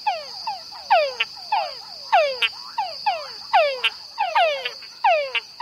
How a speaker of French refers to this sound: Une petite grenouille, la grenouille Tungara du Panama. Comme je vous le disais dans une précédente émission, après une pluie abondante, à la tombée de la nuit, les messieurs Tungara se réunissent au bord d'une mare et commencent à chanter en chœur.